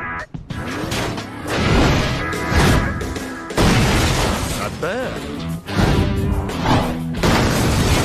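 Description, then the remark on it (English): Loud smashing and crashing of a pile of junk, with repeated heavy metallic impacts and clattering debris filling the whole stretch, while a voice briefly speaks over the din. “We should be smashing some bad guys, not a pile of junk.”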